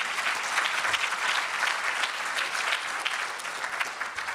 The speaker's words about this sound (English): Thanks again to the sponsors. Let's have a nice round of applause for those guys for helping make this all possible.